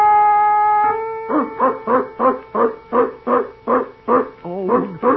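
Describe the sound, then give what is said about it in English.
A steady, sustained tone gives way to a quick, regular run of about a dozen loud barks, evenly spaced and continuing to the end, with no talking. “Presto, change your mosquito. Be a dog.”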